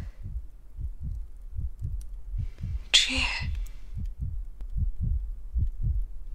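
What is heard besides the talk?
heartbeat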